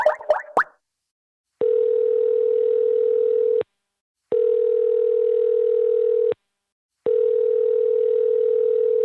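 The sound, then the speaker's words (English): A few quick clicks, then a telephone dial tone: three long, steady electronic tones of about two seconds each, separated by short silences, loud with no voices. “We finally made it on the phone.”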